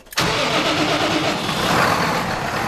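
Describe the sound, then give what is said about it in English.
A heavy tractor engine kicks in abruptly and runs at a steady, loud, rumbling roar on a farm in Wath-upon-Dearne, with no voices over it. “The tractor engines are still roaring for now on Wincover Farm in Wath-upon-Dearne, but the future has never felt more uncertain here after the proposed changes put forward in Labour's recent autumn budget.”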